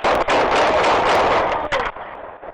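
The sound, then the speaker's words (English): Several gunshots fired by a police officer at a man holding a knife, in quick, uneven succession, each a sharp crack within a loud, harsh, distorted roar of noise that fades slightly toward the end. “And I think about 6 seconds expire from the time he gets out of the car and confronts the guy until he fires the shots.”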